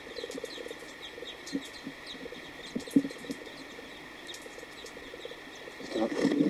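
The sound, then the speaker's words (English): Birds chirp and tweet in a busy, overlapping chorus over a steady high insect-like hum, with sharp calls scattered throughout and a louder, denser burst of calling at the very end. No one speaks. “I am now ready to test birds 2:30, 2:31, 2:32, 2:33, and 2:34.”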